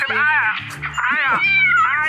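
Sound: cat meowing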